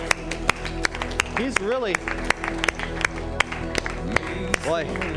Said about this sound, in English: Give Lord a hand clap for what he's done today.